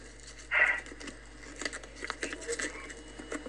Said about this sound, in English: I have here in my hand four scrunched up pieces of paper. Good luck, girls. Good luck, everyone. I'm now going to pick this one, the most scrunched up as it happens.